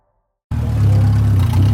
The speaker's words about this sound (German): Ein LKW nach dem anderen schiebt sich durch die engen Gassen des Viertels. Auf den Ladeflächen stapeln sich Berge von Müll meterhoch in den Himmel.